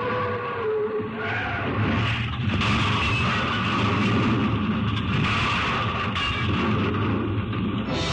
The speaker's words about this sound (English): Oh, bad crash. Afraid not. Too bad about your plane.